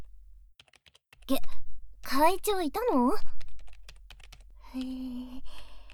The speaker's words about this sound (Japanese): ありゃ、キーボードの音。